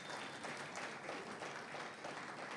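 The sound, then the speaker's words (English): A crowd applauds to welcome first-time guests, in a steady, dense wash of clapping that holds at an even level for a few seconds, with no voices standing out above it. “Let's let all our guests for the first time, let them know by a big applause that we're glad they're here.”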